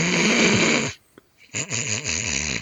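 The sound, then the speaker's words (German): A voice imitates loud snoring: a long, rattling snore fills the first second, then after a short pause a second, wavering snore with a pulsing, throaty flutter follows, loud. “Aber wenn sie schläft und wenn sie schnarcht, dann schnarcht sie nicht so.”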